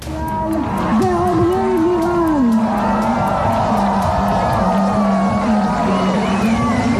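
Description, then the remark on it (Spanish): A large crowd in Israel, at the Hostages Square in Tel Aviv, cheers loudly and steadily at live images of hostages freed by Hamas, with high whoops and shouts rising over a dense wash of voices and clapping that stays strong throughout. “Las imágenes vistas en directo por miles de israelíes han sido celebradas con aplausos y vítores, como escuchábamos, desde muchos puntos de Israel y especialmente desde la Plaza de los Rehenes de Tel Aviv,”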